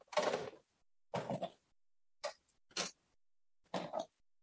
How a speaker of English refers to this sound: Okay, you ready for this? I'm going to put some chairs up.